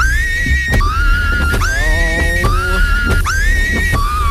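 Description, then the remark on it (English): Car windscreen wipers, switched on to clear a filthy windscreen, squeak in a steady back-and-forth rhythm, about five high, whining squeals each swooping upward in pitch, over a constant low engine rumble with no voices. “But then I realised, that sounds very similar. That wiper sound. I've heard it before. Yeah. My wipers.”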